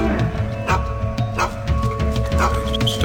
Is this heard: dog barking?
yes